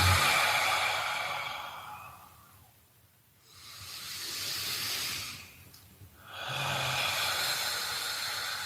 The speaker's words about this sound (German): Und deswegen habe ich dann meine Art und Weise gefunden, eben ganz tief und verbunden, ruhig zu atmen. Mal durch die Nase ein und dann wieder durch die geöffneten Lippen aus.